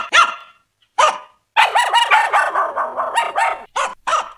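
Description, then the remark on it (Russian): A dog barks by a river: two sharp single barks, then a longer run of rapid, excited barking and yelping with a couple of final barks. “Нет, дружок, ты не лай, птичек наших не гоняй.”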